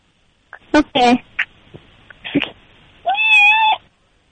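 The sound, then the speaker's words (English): A female cat meows several times, short chirpy calls followed by one long, drawn-out wavering meow, with a few small sounds in between. “That was a good meow, right?”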